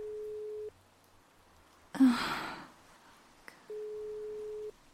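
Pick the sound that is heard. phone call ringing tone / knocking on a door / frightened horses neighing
phone call ringing tone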